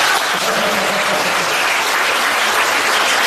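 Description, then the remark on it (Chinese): A small audience at a Buddhist dharma talk claps steadily, a dense, continuous burst of applause that stays loud and even throughout with no pauses or voices on top. “你们虽然啊人这么少，但是鼓出来的掌声啊，就像啊一千人一样，再鼓掌。”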